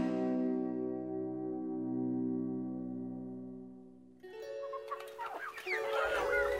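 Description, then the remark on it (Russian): A long, steady musical drone fades out, then a hen starts clucking busily in quick, uneven bursts for the last couple of seconds, fairly loud. “Каждый день ходила она с цыплятами гулять, корм собирать. Найдет зернышко, червячка или гусеницу, позовет цыплят.”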